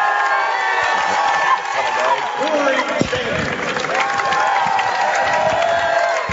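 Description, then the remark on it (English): A large crowd from Oakdale cheers and shouts continuously at a basketball game while the players are introduced, a dense roar of voices with occasional whoops rising above it, loud and sustained throughout. “They got a huge crowd from Oakdale behind us.”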